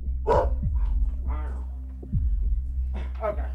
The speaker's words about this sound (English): So I opted to just stand there and listen to his cage bulldog bark at me.